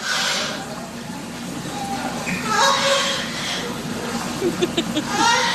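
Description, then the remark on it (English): A pet parrot imitates its female owner's lovemaking sounds: a few short, high, breathy vocal cries rising out of a steady hiss and low background rumble, with no actual words spoken. “She kept hearing the woman have sex, so the parrot started imitating her lovemaking.”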